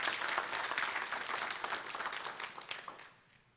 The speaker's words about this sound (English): Yeah, give the Lord a clap. Go on. Give the Lord a clap.